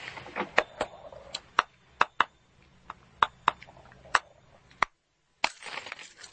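A light bulb held in one hand is smashed with a hammer held in the other: a dozen or so sharp, bright cracks scattered over a crunchy, crackling bed of glass, a brief silence, then more crackle as the broken glass is crushed by bare hand. No one speaks.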